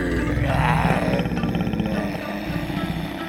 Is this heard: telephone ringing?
no